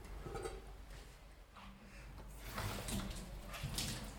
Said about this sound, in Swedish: Och du gör en bra grej här också, häller vattnet från dig när du ska hälla ut i vasken, så du inte riskerar stänk på dig.